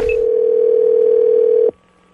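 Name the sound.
telephone line ringing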